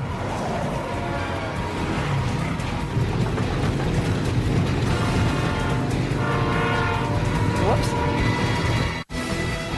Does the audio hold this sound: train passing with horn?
yes